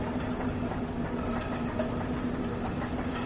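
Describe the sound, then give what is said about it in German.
Perforated paper coffee cups, set at the bottom of a staircase and carried upward, clatter as they fall over, blending into a steady, dense rushing noise once they lie down, with regular clicking ticks caused by the gaps between the steps and a low, constant hum. No voices. “Zu hören ist das Klackern der umfallenden Becher, das zum Rauschen wird, wenn die Becher in ihre liegende Position gefunden haben.”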